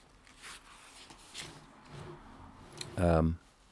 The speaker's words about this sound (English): I'm turning the page.